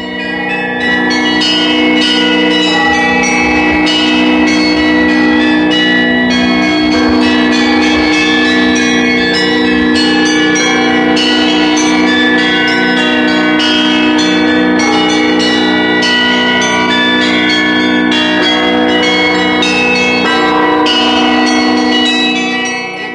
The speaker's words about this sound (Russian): И вот совершенно неожиданно, как на Пасху, сначала в столице Санкт-Петербурге, а потом в Москве, а затем по всем городам и весям и деревням, раздался колокольный перезвон.